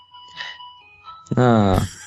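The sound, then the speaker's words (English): A cell phone rings with a bright electronic jingle: faint steady tones at first, then a loud, buzzy warbling melody that cuts off abruptly after under a second. “Cell phones. Gotta love them.”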